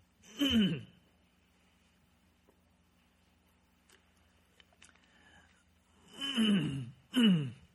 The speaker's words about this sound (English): Please forgive my hacking and coughing. Some days are just this way.